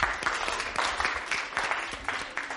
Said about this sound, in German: Jawohl, Applaus.